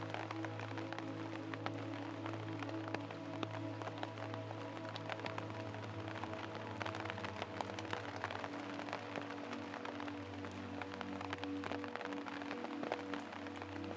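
Steady rain patters down on the leaves of trees with dense, crackling drops and scattered sharper taps over a low, constant hum. The level stays fairly even throughout, and no voices are heard.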